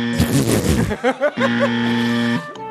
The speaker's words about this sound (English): You don't need to keep playing loser sounds.